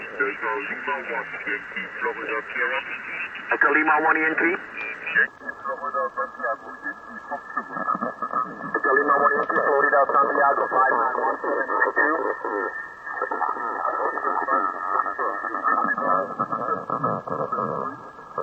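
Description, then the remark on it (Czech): A voice over shortwave radio, thin and band-limited, abruptly becomes more muffled as the filter narrows partway through, with a steady faint whistle and hiss riding under the transmission. “Teď jsem 1,5 kilo, takže vidíte, jak se to... Jo, už je to hodně hluboký, ale vyčistilo se to, jo?”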